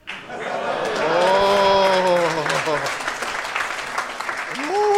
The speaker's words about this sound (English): I am so confused right now. People are just clapping after sentences. I'm like, what the fuck is happening right now?